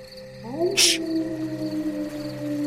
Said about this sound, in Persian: آها این سگه یا گرگه؟ چه خبه حیوان؟ چشته؟